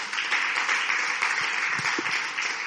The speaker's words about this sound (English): Give a big hand clap.